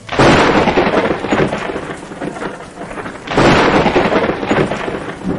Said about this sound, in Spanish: Y, a pesar de los esfuerzos de la tripulación, el barco naufragó. En medio de las gigantes olas, los relámpagos y la lluvia, Sinbad apenas logró aferrarse a una madera.